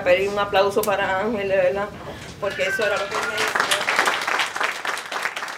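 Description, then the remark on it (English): At a funeral, a voice speaks briefly, then a steady round of applause in honor of the deceased man swells up from the crowd and continues, dense overlapping clapping lasting the remaining few seconds. “And then she asked for a round of applause in his honor.”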